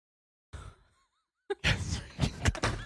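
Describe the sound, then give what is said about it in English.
A brief soft bump, then a sharp impact as a door slams shut hard, followed by loud rumbling, rattling clatter and a couple more heavy thuds. No one speaks. “Slamming the door seems like there was something choice.”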